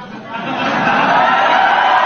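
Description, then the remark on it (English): Members of the press corps cheer and shout together, a loud, dense wash of many voices that swells in the first half-second and then holds steady. “That's the press cheering.”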